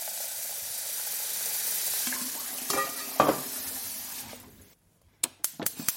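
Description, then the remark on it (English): Water heats in a pot for boiling noodles, with a steady hiss and faint bubbling, broken by a couple of metallic clinks; the hiss then cuts out, followed by a few sharp knocks. “Okay, so whilst that water is boiling, I'll put my noodles aside and prep everything else.”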